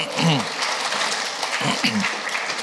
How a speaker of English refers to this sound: Give her a nice round of applause.